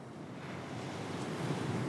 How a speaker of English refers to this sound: I'm here at the beach in Malibu, where there are some gnarly surf waves.